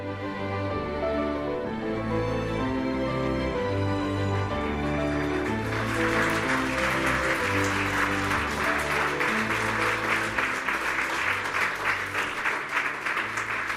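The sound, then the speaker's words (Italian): Music plays, then an audience bursts into steady, loud applause halfway through, the dense clapping filling the main hall (aula magna) of the school centre in Faido while the music continues faintly beneath it. “L'applauso del pubblico ha corso all'aula magna del centro scolastico di Faido.”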